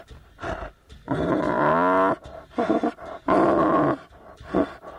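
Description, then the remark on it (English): Paiyo, a two-year-old male tiger rescued by Thai border police and kept at a Buddhist temple in Thailand, growls in a series of deep, rumbling bursts, two longer snarling roars among shorter grunts, loud and raspy with no one speaking. “This 2-year-old male tiger, Paiyo, was rescued by Thai border police 1.5 years ago.”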